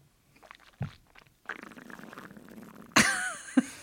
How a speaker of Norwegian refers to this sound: Det slurpes. Ja, det var et bekreftende slurk. Ja. Slurp, mener jeg.